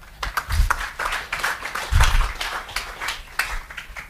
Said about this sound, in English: So I'd like a round of applause as we welcome Mr. Daniel Silk.